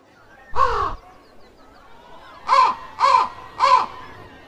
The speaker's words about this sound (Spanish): La corneja se puso en uno de los árboles y empezó a lanzar gritos muy fuertes.